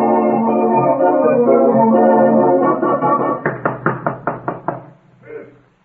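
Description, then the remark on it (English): A rapid, evenly spaced series of about seven loud knocks on a door, following a few seconds of steady tonal music, then one softer thump at the end. “Open the door so I can let you have it.”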